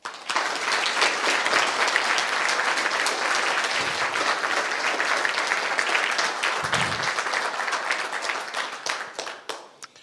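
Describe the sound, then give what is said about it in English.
A crowd breaks into sustained, dense applause as a show of respect and recognition for a man who could not attend, many hands clapping at once in a steady roar that holds for several seconds before tapering off near the end. “He would be embarrassed to hear that we did this, but let's show him our respect by giving him a round of applause right now.”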